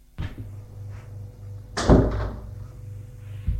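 A door swings and shuts with a solid thud, preceded by a faint click of the latch and followed by a softer knock near the end, all close by with no one speaking.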